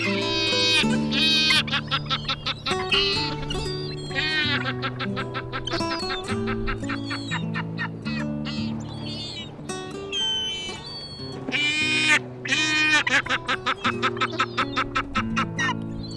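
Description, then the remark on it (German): Caspian gulls call loudly, their harsh, nasal, laughing cries overlapping almost without pause, as if several birds are calling together from a busy colony. “Das war die Steppenmöwe.”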